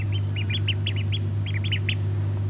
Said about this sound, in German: Ah, wenn das nicht super süß klingt, oder? Weiß ich auch nicht. Frisch geschlüpfte Küken sind das. Genauer gesagt Laufentenküken. Die leben im Seniorenheim Störmannshof in Eslohe.